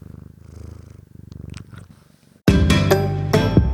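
A cat that has jumped onto a desk purrs steadily, a low rhythmic rumble for about two and a half seconds before a loud, bright burst of other sound abruptly cuts in.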